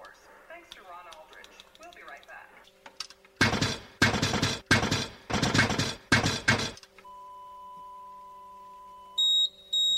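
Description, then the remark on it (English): A radio scanner's deviation alarm sounds as the received signal deviates: a steady electronic tone followed by a pair of short, high beeps at the end, after several loud bursts of harsh static. Someone talks briefly at the start. “There's that deviation alarm again.”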